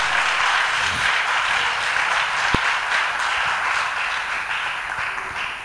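An audience claps steadily for about six seconds, a dense, even wash of many hands with no pauses, holding roughly the same moderate loudness throughout and no voices on top.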